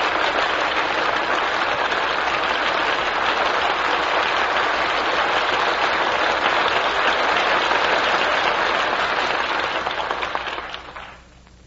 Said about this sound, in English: That well-earned applause deserves a curtain call.